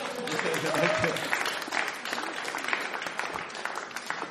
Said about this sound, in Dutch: Dus degene die over het geld gaat, die vergeet je? Ja, dat krijg je in jazzclubs, hè? Een applaus voor de penningmeester.